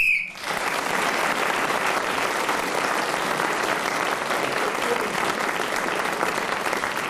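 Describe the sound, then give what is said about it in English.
A short, shrill whistle blast sounds at the very start, blown to end the round as Clement Freud was speaking, then gives way to steady, loud applause from an audience that carries on to the end. “So Clement Freud was then speaking as the whistle went, gained that extra point, and now has gone into the lead.”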